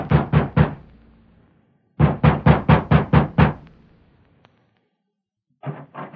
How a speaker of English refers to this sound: Sheriff Ramsey has just dismounted before the ranch house of Alva Carlson and is knocking at the door.